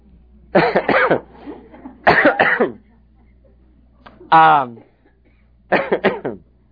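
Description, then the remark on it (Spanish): Several short bouts of coughing and throat clearing, four separate bursts spread a second or so apart, fairly loud, one with a raspy voiced rasp, no talking in between. “De pronto nos ha entrado tos a todos.”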